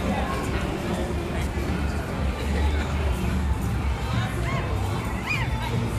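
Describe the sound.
A dense, steady crowd murmur at the Pixar Play Parade at night fills the whole stretch, with overlapping voices, occasional higher children's shouts and brief rising calls cutting through the constant babble of the parade audience.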